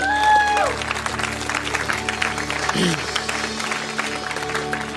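Audience applause fills the whole stretch, a dense steady patter of many hands clapping, with a sustained musical tone fading out at the start.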